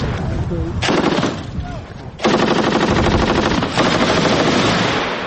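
Machine gun fire, shot by Russian writer Eduard Limonov at the besieged city of Sarajevo from the surrounding front lines, crackles in a short burst, then erupts into loud, sustained rapid automatic firing that rattles on continuously, with faint voices heard briefly during the quieter opening.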